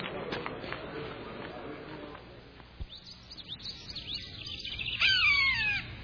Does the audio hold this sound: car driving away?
no